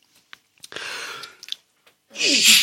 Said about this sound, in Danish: Ej, det må I altså undskylde, det er virkelig træls. Der er lige lidt hoste og kriller her tydeligvis.